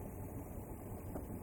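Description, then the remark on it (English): The engine of two fishermen's boat idles on a river in Khuzestan province in a steady, low rumble, continuous and unchanging throughout, with no voices and no other distinct sounds over it. “I went on their boat and tried not to disturb their daily work.”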